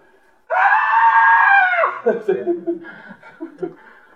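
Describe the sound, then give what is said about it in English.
A voice imitates the high, sustained, loud scream of a little girl who has lost her mommy, lasting over a second, then breaks into choppy chuckling sounds. “I never heard such screaming. Where's my mommy? Screaming at the top of her lungs.”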